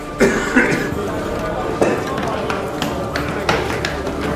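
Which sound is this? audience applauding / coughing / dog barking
coughing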